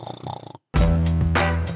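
A cartoonish snore: a short, buzzing inhale, a brief pause, then a long, loud, rasping snort that stays strong before easing off slightly at the end.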